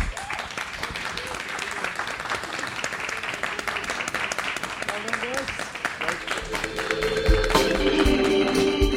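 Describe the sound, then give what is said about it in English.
An audience breaks into a sustained round of applause for three male guests, dense, steady clapping that carries on for about nine seconds and swells louder toward the end as some tonal sounds join in. “Please give a big round of applause for these lads.”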